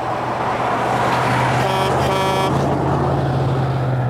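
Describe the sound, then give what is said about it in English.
Two semi-tractor trailers rumble past with a steady low engine drone and two short air horn blasts midway through, loud, amid continuous road noise. “We got two semi-tractor trailers to drive through that pregnant pause.”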